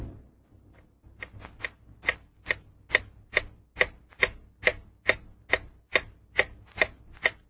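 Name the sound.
clock ticking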